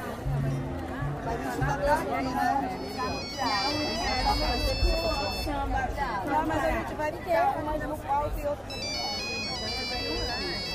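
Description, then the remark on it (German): A mobile phone of an Indigenous Arapiu spokesman rings with a bright, repeating electronic melody that comes and goes over a steady murmur of crowd chatter and overlapping voices at a World Social Forum event in Belém. “Doch bevor er weiterreden kann, unterbricht ihn das Klingeln seines Handys.”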